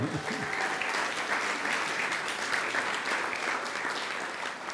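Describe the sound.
A crowd claps steadily for several seconds for whoever painted a nice sign, a dense, continuous wash of applause, with a few faint voices mixed in underneath.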